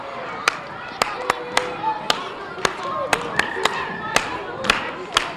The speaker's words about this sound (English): The principal of Public School 22 on Staten Island can bring her students to order with a simple clap of her hands. You're going to start to clap with me?